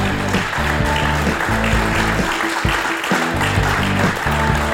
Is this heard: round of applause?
yes